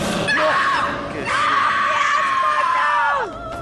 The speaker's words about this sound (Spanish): Ese grito está muy feo, hermano. Qué miedo, hermano. Me dio un susto.